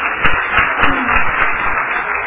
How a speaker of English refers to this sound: can we clap hands again for them?